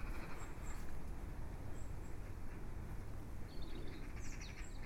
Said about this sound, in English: That little trilling robin and the laughing magpie. It's just moments like that on days where it's felt like never-ending rain that really pick you up.